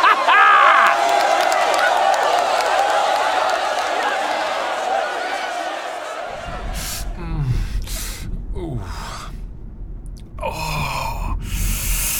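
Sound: noisy crowd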